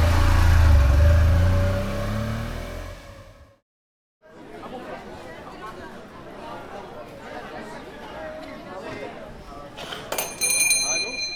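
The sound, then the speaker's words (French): A car engine revs loudly and pulls away toward town, its pitch rising, then cuts off. After a brief silence comes a busy outdoor scene with people chattering and a bell ringing near the end. “Nous avons sauté dans sa voiture et pris la direction de la ville.”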